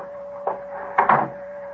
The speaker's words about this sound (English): Close the door, will you? Yes, sir.